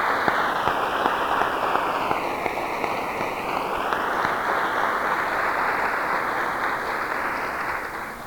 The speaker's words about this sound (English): Give all those people a round of applause.